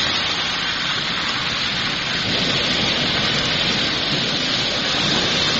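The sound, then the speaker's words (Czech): Heavy rain pours down steadily in a dense, continuous hiss in Ivanjica, southwestern Serbia, falling without a break through the previous night and day, loud, with no voices and no break in the downpour. “Celu prethodnu noć i danas bez prekida pada u Ivanjici na jugozapadu Srbije.”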